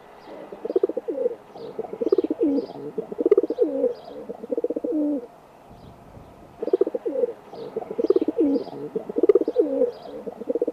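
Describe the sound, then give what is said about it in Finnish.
Feral pigeons coo in repeated low, throaty phrases, steady, pausing briefly midway before resuming, with faint chirps from small birds in the background. “Tämän vuoden ensimmäisen viikon luontoäänen kunnia on annettu kesykyyhkylle eli pululle.”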